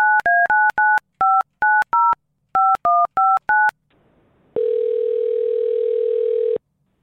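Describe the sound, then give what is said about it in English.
A rapid sequence of about eleven touch-tone dialing beeps as a parent phones their 14-year-old son, followed by a short pause and a single steady, sustained ringing tone lasting around two seconds. The tones are clear, with no voices. “I actually want to see what happens when we call him.”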